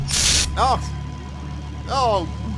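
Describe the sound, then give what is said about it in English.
A short, loud hiss of aerosol bug spray, sprayed at a bug on a microphone inside a van, bursts at the start, followed by brief bits of talking over a steady low rumble. “I'm just going to spray that. Sorry. I'm spraying the microphone.”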